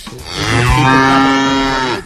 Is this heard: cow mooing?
yes